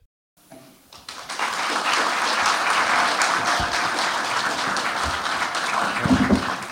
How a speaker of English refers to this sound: Yes, the sound of applause. Hooray!